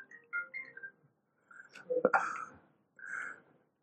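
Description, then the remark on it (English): A mobile phone rings with short, melodic electronic tones in a quick rising pattern, broken by a louder, rougher burst of sound midway, then another tone sequence before it stops. “Sometimes it helps to wake everybody up in the early morning so we never find fault with somebody's phone ringing.”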